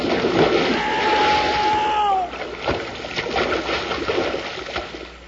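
Heavy logs crash into lake water with a big splash, surrounded by a steady rush of churning water; a brief sliding whistle sounds just before the impact.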